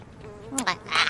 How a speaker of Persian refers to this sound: مگس از کجا میاد؟